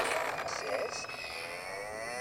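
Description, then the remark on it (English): A tinny, electronic cow moo plays from the small speaker of a talking toy powered by three AA batteries: a single drawn-out, wavering low call with a thin, buzzy tone, fairly quiet and heard on its own. “That was the cow says moo, right?”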